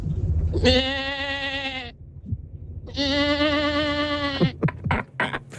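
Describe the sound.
Someone imitates a sheep with two long, wavering bleats separated by a short pause, loud, followed by a few brief breathy noises.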